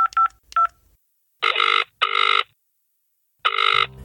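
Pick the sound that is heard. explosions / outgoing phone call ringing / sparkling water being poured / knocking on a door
outgoing phone call ringing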